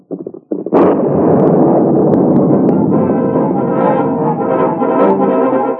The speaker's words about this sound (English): The explosion did all the Lone Ranger hoped it would. For the time being, at least, the swamp was destroyed.